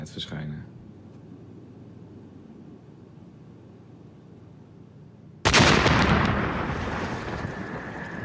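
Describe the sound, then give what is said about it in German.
A car explodes in a video with a sudden, loud blast after several seconds of low, muffled rumbling, with no people nearby, and the burst continues as a broad, sustained roar to the end. “Das Auto explodiert zwar, aber kein Mensch ist in der Nähe.”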